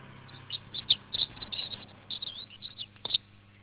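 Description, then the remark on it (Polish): Birds sing in spring in a quick series of short, high chirps and tweets scattered across a few seconds, fairly quiet, over a steady low background hum with no voices. “Dlatego te ptaki tu zaśpiewały w radiu.”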